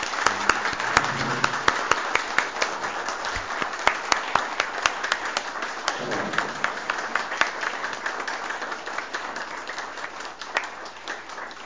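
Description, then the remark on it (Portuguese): A crowd applauds steadily for several seconds at a municipal school event, dense overlapping claps forming a continuous wash of sound with sharper individual claps standing out, moderately loud. “Uma salva de palmas, pessoal.”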